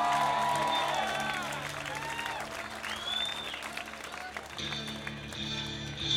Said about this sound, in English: Everybody turn around and give some applause to Chuck Radu.